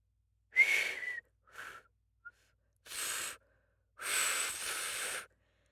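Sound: failed attempt to whistle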